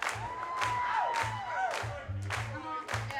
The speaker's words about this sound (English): We gotta put the soul back into that clap. 1, 2, 3, 4. Now you gotta like swing your hips. This is what we call the sexy clap.